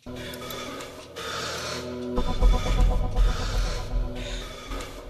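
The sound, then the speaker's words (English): Slow, rhythmic breaths of people meditating, in long airy rushes, each lasting about a second, rise and fall over a steady humming drone that swells into a deeper, louder rumble partway through. “Is that breathing? On the pipe, man. They're meditating.”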